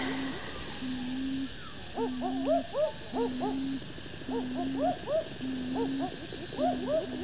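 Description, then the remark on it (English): Owls hoot repeatedly in a steady rhythm, their low calls overlapping with quick higher rising notes from other birds, set against a constant hiss of night insects in the background. “Listen to all those birds.”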